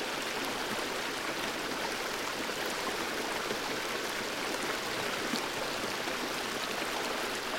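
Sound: flowing water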